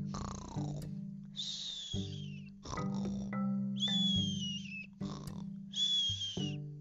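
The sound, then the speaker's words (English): Cartoonish dinosaurs snoring in the deep of the night: deep, rumbling snorts alternate with high, wavering whistles, repeating about three times in a steady rhythm with no talking. “dinosaur snoring till the next day's light.”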